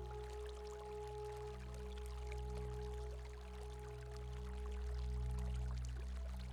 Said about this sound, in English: A warm, soothing feeling running through your tail, legs, and coat while you listen to the relaxing sound of the waterfall.